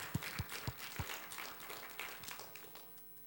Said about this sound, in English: Well done. Round of applause.